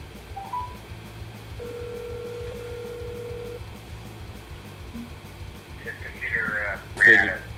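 phone keypad dialing tones

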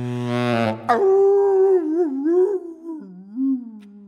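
dogs howling

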